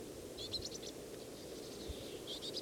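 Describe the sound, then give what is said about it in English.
High, thin chip calls from a bird of a flock come in two quick clusters, one early and one at the end, over a steady low background hiss. Nobody speaks. “On again, this is a different bird of the same flock.”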